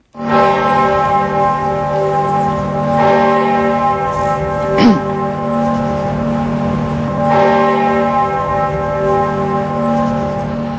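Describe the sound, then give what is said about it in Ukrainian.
Large church bells in Brussels toll at midday to honour victims of a natural disaster, with slow, repeated strikes, their deep ringing tones overlapping into a continuous loud hum that fills the whole stretch, with no voices. “У Брюсселі, як і в інших європейських столицях, били дзвони.”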